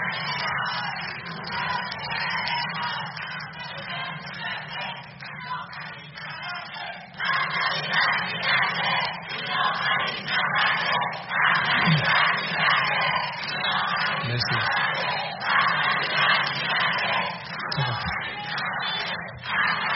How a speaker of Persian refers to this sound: در آبان 1395 فرزندان کوروش از جای ایران در پاسارگاد گرد هم آمدند و فریاد زدند: ایران وطن ماست، کوروش پدر ما.